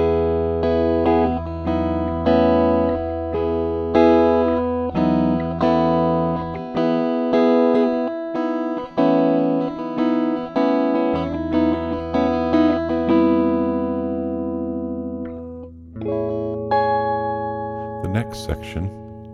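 A Schecter C1 Elite electric guitar, recorded through the 6F5 tube instrument input in overdrive mode with very moderate settings, uncompressed and unprocessed except for some reverb, rings out a steady series of sustained, harmonically rich notes and chords, fairly loud, ending with a brief scratchy burst.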